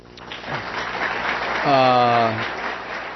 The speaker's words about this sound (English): Okay, the applause came from the John Hopkins School of Advanced International Studies audience.